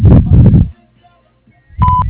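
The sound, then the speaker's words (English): A single short, steady answering machine beep at a mid-high pitch sounds on the Warren Septic Service answering machine after a muffled phone-line voice and a brief silence, with low rumbling sound beneath the tone. “Please leave your name, number, and a brief message after the beep, and we will return your call as soon as possible.”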